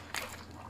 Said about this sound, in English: All right, let's do this, guys. A bite of this. Best fried chicken ever.